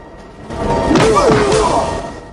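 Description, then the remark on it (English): A brief flurry of heavy fight blows, three or so punchy thuds landing close together, mixed with strained grunting as kicks and punches connect, including a backward spinning kick smashing a heel into a pirate's mouth. “He does a backward spinning kick, smashing a heel into the pirate's mouth.”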